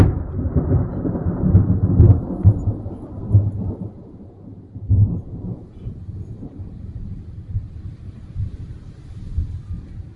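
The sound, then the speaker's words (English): A thunderstorm with deep, rolling thunder rumbling continuously, swelling in a few heavier booms, over a steady wash of rain. No one speaks. “But who could brave the storm to look into Sparkwing's eyes?”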